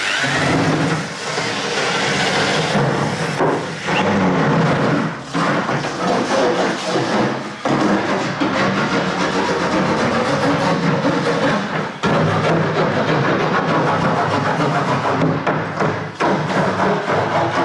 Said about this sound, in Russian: Вот так может звучать тонкий сосновый пласт.